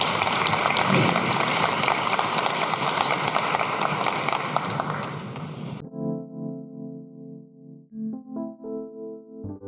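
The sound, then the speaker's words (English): A crowd at a storytelling event applauds the people who shared their stories, a dense, steady crackle of clapping for about six seconds, then it cuts off abruptly and gentle music with sustained, layered tones takes over. “A round of applause, please, for those who shared the story.”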